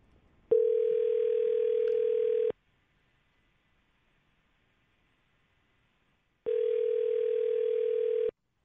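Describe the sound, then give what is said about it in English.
A telephone ringback tone sounds in two steady bursts while a phone call is placed, about two seconds each with a long silent gap between, clear and loud with no talking. “Well, let's call her.”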